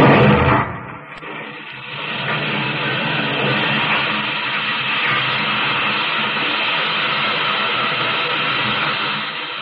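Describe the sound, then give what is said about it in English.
Oil well drilling, pumping and blasting in the red soil of Oklahoma, with rich black oil gushing: a brief loud burst opens, then a dense, steady roar of machinery churns on without pause, harsh and hissy across the whole range. “The voice of the drill, the pump, the blast, and then the rich black oil gushing from the red soil of Oklahoma.”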